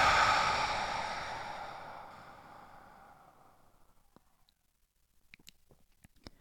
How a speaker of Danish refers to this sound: Trækker vejret ind gennem næsen. Ekstra indånding. Og ånder ud.